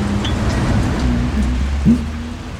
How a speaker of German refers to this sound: So, jetzt habe ich den ersten Regentropfen abgekriegt. Komm, wir setzen uns ins Wartehäuschen dort drüben. Das hört hoffentlich schnell wieder auf mit dem Regen.